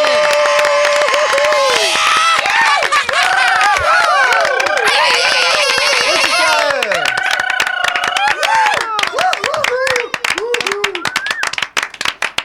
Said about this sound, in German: Großen Applaus. Jawohl.